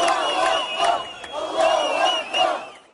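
A large crowd of thousands, marching after Friday prayers toward Damascus Gate (Bab al-Amud) in Jerusalem, chants loudly in unison, many voices rising and falling together in a steady, repeated rhythm of shouted phrases, with no single speaker standing out.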